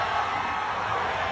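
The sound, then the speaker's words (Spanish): A large crowd cheers and roars outside a restaurant where Messi is dining, a dense, steady wall of shouting voices that holds at full loudness throughout, sounding like a stadium. “Y así se escuchaba el restaurante a las afueras.”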